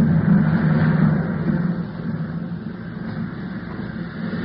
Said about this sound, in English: Oh, we're over land. He's bringing the plane down.